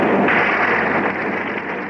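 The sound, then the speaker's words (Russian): Muffled gunfire crackles through a dense wash of noise, with rapid shots blurring together on an old, hissy Czech radio archive recording. No voices are heard. “Слышны звуки стрельбы.”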